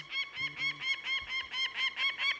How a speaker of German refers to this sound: Oder diesem Falken hier zuzuhören.